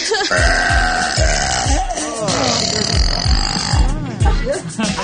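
A woman lets out a series of loud, drawn-out belches, each low and guttural with a rising, bleating quality, repeated several times in close succession.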